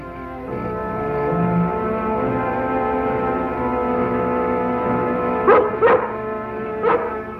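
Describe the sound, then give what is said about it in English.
A dog, Lassie, whimpers in a long, steady, high whine, then breaks into three sharp barks near the end, two in quick succession followed by one more. “You found him, Lassie. Good girl.”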